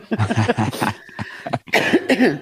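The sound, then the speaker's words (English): Several short coughs in quick succession, then a brief pause and a rougher, throaty burst of voice, fairly loud against a quiet background. “That was that with that cough you just gave.”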